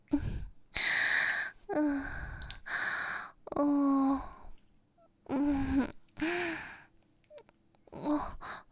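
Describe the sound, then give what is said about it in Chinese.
Heavy panting breaths, about nine loud gasping pulses in an uneven rhythm, several carrying a voiced, moan-like tone, with short pauses between them and no talking. “对了，宝宝喘了这么久，是不是喉咙也干了？”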